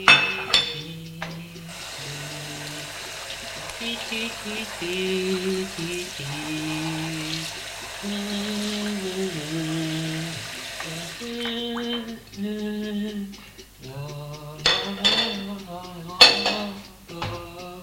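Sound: washing dishes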